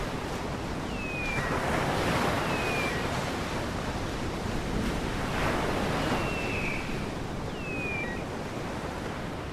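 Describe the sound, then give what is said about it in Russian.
Steady ocean surf washes in broad, rolling surges with a windy hiss, and a few faint, high, sliding whistle-like calls drift over the top. No one speaks. “Звезды спускались вниз и качались в волнах, как бывало давно у берегов Родины.”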